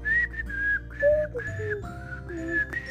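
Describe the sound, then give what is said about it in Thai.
Someone whistles a short, cheerful tune, bright sustained notes shifting in pitch across a few phrases, with no talking. “ทุกๆเช้าที่อากาศสดใสเธอก็จะใช้ช้อนพายเรือวนไปมาในชามใส่นมพร้อมกับผิวปาก”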